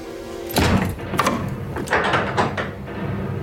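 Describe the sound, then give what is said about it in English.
A door thuds shut as a man hastily walks out, then a series of sharp metallic clicks and rattles as he turns a key to lock the door behind him. No one speaks. “Ben Devine hastily walks out, locking the door behind him.”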